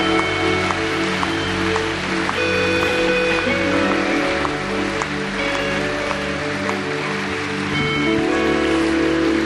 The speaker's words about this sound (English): Let's just give these people a round of applause.